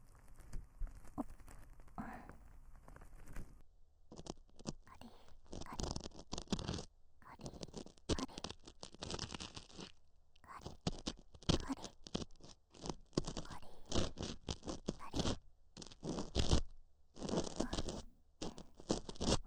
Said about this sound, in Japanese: 奥、失礼しますよ。では失礼して、カリカリカリカリカリカリカリ、トントンと。もう一度耳かき棒奥に入れます。